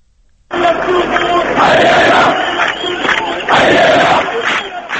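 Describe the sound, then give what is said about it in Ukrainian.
A large crowd at an anti-government protest in Syria, after Friday prayers, chants loudly in unison for President Bashar al-Assad's resignation, voices surging in rhythmic waves of shouted phrases that rise and fall over a steady roar of many people. “Ось запис зроблений на одній з таких акцій.”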